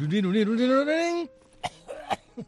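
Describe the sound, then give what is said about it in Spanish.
A voice lets out a drawn-out, rising vocal tone, then imitates a few short, sharp coughs in an uneven rhythm, fairly quiet, mimicking an audience member coughing during a pianist's pause at a live concert. “Suena siempre una tos por allá atrás que no tiene que ver”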